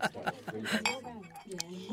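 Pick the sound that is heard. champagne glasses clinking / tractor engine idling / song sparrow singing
champagne glasses clinking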